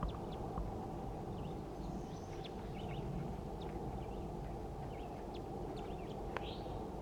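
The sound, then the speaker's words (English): A wild male bird gives scattered, brief high chitter notes, faint and irregular, over a steady low rumbling background noise, with no voices. “I caught the female, and now I'm going to be recording chitter notes of the wild male.”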